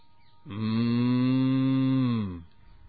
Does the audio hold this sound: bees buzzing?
no